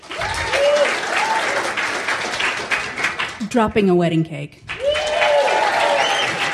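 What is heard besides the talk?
audience clapping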